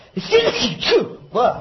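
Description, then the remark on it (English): A loud sneeze with a sharp voiced burst, followed moments later by another shorter sneeze-like burst, with no talking around them. “I don't know why I'm sneezing at the mention of them.”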